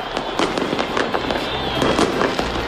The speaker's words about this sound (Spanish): Así han sonado los fuegos artificiales el día en el que se cumple el primer aniversario de la caída del régimen de Bashar al-Assad